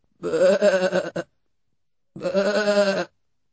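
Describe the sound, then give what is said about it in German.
A sheep on a farm bleats twice, each call a drawn-out, wavering baa lasting about a second, separated by a short pause. Fairly loud, with no other sounds around it. “Ein Schaf.”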